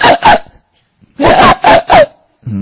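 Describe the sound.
A person imitates a donkey's bray with harsh, loud voiced bursts: two quick ones, a short pause, then three more in a rhythmic heave, ending in a low rumbling sound.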